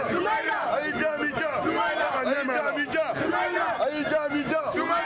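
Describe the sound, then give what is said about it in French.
Several dozen people at Bamako airport, Mali, shout and cry out joyfully to welcome former Malian opposition leader Soumaïla Cissé off a military plane, many excited voices overlapping in a loud, continuous clamour with high, rising calls throughout. “Il s'agit là des cris de joie de plusieurs dizaines de personnes venues accueillir l'ex-chef de file de l'opposition malienne.”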